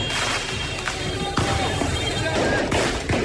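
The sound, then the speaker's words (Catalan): Several sharp firecracker bangs burst out at irregular intervals over a dense, roaring street din, some loud, others fainter, with crackling noise filling the gaps; fans in Paris throwing firecrackers and flares at police while celebrating PSG's Champions League win. “Els aficionats van llançar bengales i petards contra la policia.”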